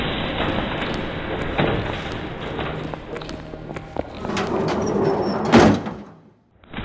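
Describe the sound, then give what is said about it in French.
Metro train sliding doors rumble and clatter open, then a sharp thump as they close near the end, over a steady hum of station and train noise with faint background chatter. “Voilà un métro. On le prend?”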